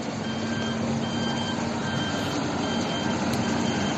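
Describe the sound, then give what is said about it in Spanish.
Heavy machinery working intensively to clean the streets a few metres from a cemetery, a dense, continuous engine roar with a low steady hum and grinding noise that holds at the same loud level throughout, with no voices. “A pocos metros, la maquinaria trabaja intensamente para limpiar las calles.”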